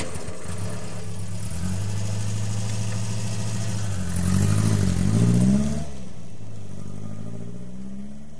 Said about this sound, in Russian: «Хорошо», — согласилась Надя и завела мотор.